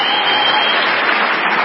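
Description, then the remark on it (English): Loud, dense applause from a large Democratic audience at the Eleanor Roosevelt dinner in Manchester, New Hampshire, on a Friday night, as House Minority Leader Hakeem Jeffries says George Santos is no longer in Congress; a steady wash of many hands clapping at once with no pauses. “that's the biggest applause he's ever gotten before a Democratic audience.”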